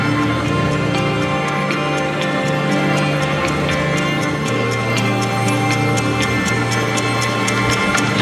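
Steady, evenly spaced clock-like ticks click over sustained low musical tones, the ticking crisp and regular throughout without any voices.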